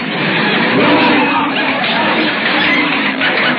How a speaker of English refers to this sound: listen to those people booing. What am I going to do? The audience is leaving for the other supermarket.